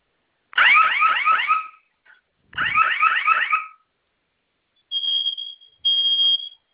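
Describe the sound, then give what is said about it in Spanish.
A loud electronic security alarm panel sounds during a test, set off by holding down two buttons marked with a flame symbol, in two warbling bursts, followed by two shorter steady high-pitched tones, with no talking. “Va a mantener presionados los dos botones con la figura de la flama. Okay. En cuanto suene la alarma, va a ingresar la clave que usted escogió.”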